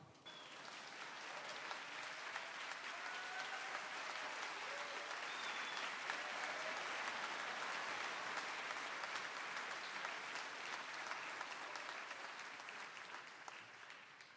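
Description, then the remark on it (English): A large audience claps steadily for about fourteen seconds for Samson, a dog, after he finds his cat, a dense, sustained wash of applause that swells quickly and holds before easing slightly at the end, with a few faint cheers mixed in. “Give Samson a round of applause after he finds his cat.”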